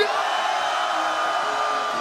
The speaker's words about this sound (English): And if you want one more tune, I need everybody to scream as loud as you can on the count of three. 1, 2, 3.